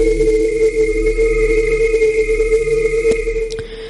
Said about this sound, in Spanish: Suena el despertador.